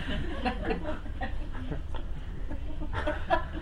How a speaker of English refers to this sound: "No," she said, "it's a chicken." He said, "It can't be. It's a duck." She said, "No, it's a chicken."